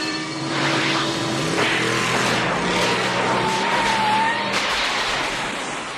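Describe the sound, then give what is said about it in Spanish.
A car engine revs and accelerates with rising and falling tonal whine, joined by a high squealing screech like tires skidding, loud and continuous throughout with no talking. It is Doc's time-travel car in a scene from the film Back to the Future (Regreso al Futuro), accelerating toward 140 km/h. “Y lo más importante, ¿quién no ha soñado con tener un coche como el de Doc para ir viajando en el tiempo”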